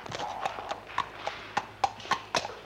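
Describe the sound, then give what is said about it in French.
A horse, ridden by its rider, clip-clops at a steady walking pace on a hard floor in a great hall, a run of sharp knocks, a little uneven in rhythm, with a faint background hum. “Parce que je vous vendrai mon cheval monté par moi dans la grande salle.”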